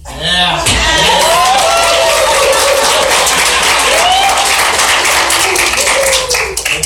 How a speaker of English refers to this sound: Here's what I know, but those are claps of support. I'm clapping because another one of you has fallen prey.